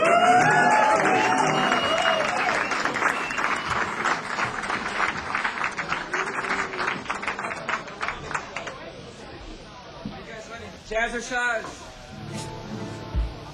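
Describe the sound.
A crowd bursts into loud applause and cheering as a band takes the stage, dense clapping that gradually thins out, with scattered whoops and a murmur of voices as it fades.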